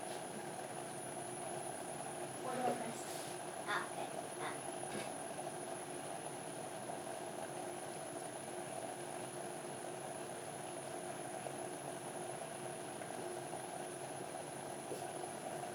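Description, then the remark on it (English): A pot of water and sugar solution boils with a steady rumbling hiss and a low hum underneath, a few faint pops near the start, and no one speaking. “Meanwhile, water and sugar solution is still boiling.”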